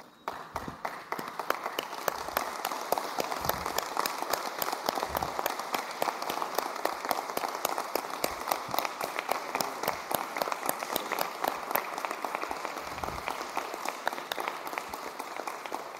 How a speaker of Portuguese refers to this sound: E eu queria pedir à minha equipe que ela ficasse de pé e a gente desse uma salva de palmas à equipe da Defesa Civil.